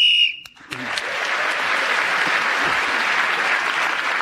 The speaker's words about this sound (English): So Clement Freud speaking as the whistle went again.